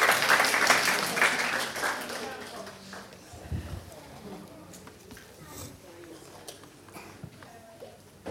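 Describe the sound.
A crowd applauds with a dense wash of clapping that starts loud, then thins and fades over a few seconds, leaving scattered claps and a voice talking.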